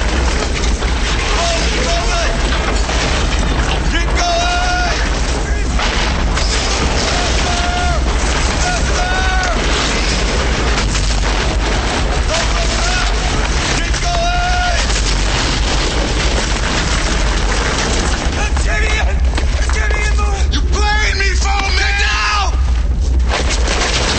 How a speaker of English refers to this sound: The air shaft explodes. A huge fireball rolls through. Pipes along the tunnel wall explode, sending tiles flying through the air.